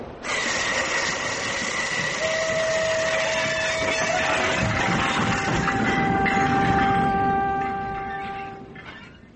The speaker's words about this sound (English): When does this train stop? It doesn't stop. It's straight through to London.